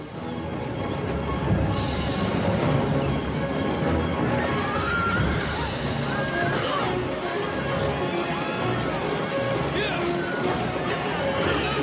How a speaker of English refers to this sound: to create the illusion of racing hundreds of horses and wagons.